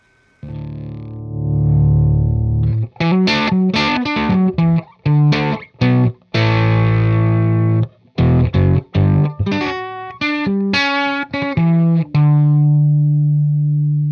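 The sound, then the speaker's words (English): Electric guitar played through a Linear Power Booster 1, a little late-1960s clean boost box plugged into the guitar's input jack that uses a solid-state silicon transistor. Loud and slightly gritty, with a sustained low chord opening into a choppy run of bright, harmonically rich riffs and held notes, no voices. “It was a little box from the late 60s that plugged directly into the input jack of your guitar, and it just used a solid-state transistor, a silicon transistor, to make your guitar a hell of a lot louder. Here's an example.”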